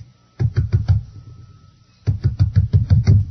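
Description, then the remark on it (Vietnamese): Rapid, heavy knocking on a door by a man outside: a quick burst of about five thuds, a short pause, then a longer run of eight or so loud, booming knocks. “Tiếng đập cửa lia lịa, Nhị lại mở, lần này chỉ hé hé.”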